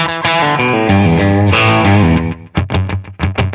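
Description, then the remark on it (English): Distorted electric guitar played through a slapback analog delay effect plays a quick run of notes with a short, tight echo doubling each one, then ends in a series of choppy, percussive stabs. “A slapback.”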